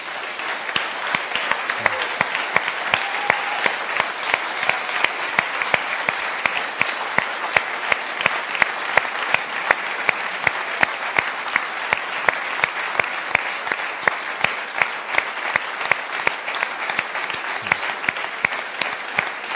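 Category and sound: crowd, audience applause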